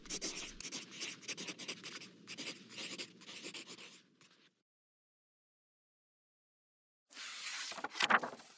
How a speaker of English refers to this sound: I can wait for you to finish your letter.